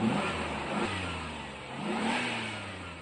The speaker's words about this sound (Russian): Такси медленно проехало вдоль улицы и остановилось прямо у ворот дома номер 17. При этом раздался жуткий скрип и скрежет. Оно и понятно, от колес до самой крыши машина была заполнена багажом.